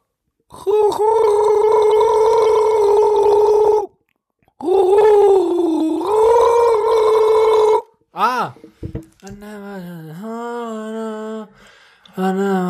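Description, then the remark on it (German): A person gargles with a sustained, tonal, bubbling voice in two long bursts, then a few shorter warbling gargles with shifting pitch follow, loud and alone. “Oh, ich will noch was gurgeln. Kleiner Bonusgurgler.”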